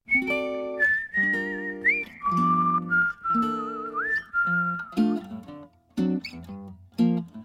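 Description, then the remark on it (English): A singer whistles a bright, steady melody in a song over a mellow band accompaniment, the clear tone gliding between sustained notes in a relaxed, swinging rhythm before fading under the instruments. “And we'll hear him singing and whistling on the song”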